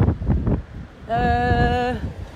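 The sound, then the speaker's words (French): Gusts of wind buffet the microphone with a loud, low rumble, then a steady whistling, horn-like tone rises over it for about a second before fading. “Bon, beaucoup de vent. Je sais pas si vous allez entendre quelque chose à cet épisode pourri, là.”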